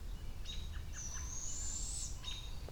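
birds calling

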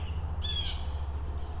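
bird squawking

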